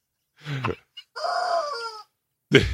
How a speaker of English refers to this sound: Rubber chicken. wasn't me. It was the rubber chicken.